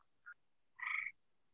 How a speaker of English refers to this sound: I just hear frogs.